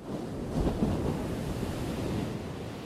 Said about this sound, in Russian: Океан, серый, с остальным отливом, был неспокоен, как в ее сердце. Волны с силой ударялись о берег, разбиваясь на тысячу брызг.